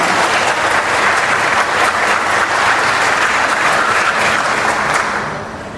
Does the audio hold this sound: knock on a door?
no